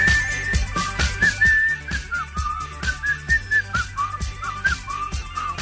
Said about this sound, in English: The Secret's not working. …'s still whistling.